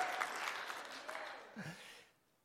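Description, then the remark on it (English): A church audience claps and cheers in praise, answering a call for a hallelujah, a dense wash of applause mixed with scattered shouts and voices, steady for about two seconds before fading out quickly. “You can clap and cheer today, not because you figured it out on your own.”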